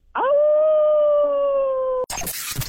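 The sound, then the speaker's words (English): A person imitates a wolf howl: a single loud, sustained tone held steady for about two seconds, sliding slightly downward, then cut off abruptly as a burst of other sound begins. “Give us a wolf owl, will you?”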